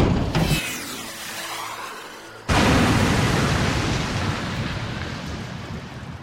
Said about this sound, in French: Je suis désolé. J'avais appuyé par inadvertance sur une commande qui avait activé le lancement d'un missile au beau milieu du hangar. Il avait détruit un pont et mis en panique les hommes se trouvant à quelques mètres de l'impact.